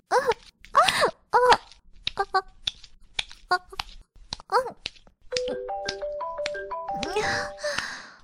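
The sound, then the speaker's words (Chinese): A mobile phone ringtone for an incoming call plays a stepped electronic melody for about three seconds, fairly loud. Breathy vocal sounds come before it and briefly overlap its end. “我的手机响了。”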